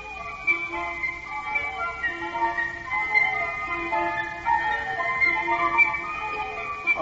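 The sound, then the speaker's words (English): A mechanical nightingale sings a bright, tinkling tune like a music box, with steady high notes repeating in a looping melody over about seven seconds. No one talks over it. “Listen to that. How differently it sings. And this bird looks much nicer than your other nightingale, Your Highness.”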